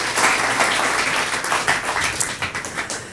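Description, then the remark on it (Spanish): An audience applauds the volunteers who made Family Experience possible, a steady, dense wash of many hands clapping, loud and sustained, then thinning into more separate claps toward the end. “¿Por qué no damos un fuerte aplauso a todos los voluntarios que han hecho posible Family Experience?”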